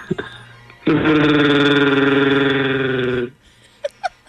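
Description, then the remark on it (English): A person imitates the growl of Chewbacca: one loud, sustained, warbling roar lasting over two seconds, followed by a couple of faint short noises. “I can do a darn good Chewbacca noise.”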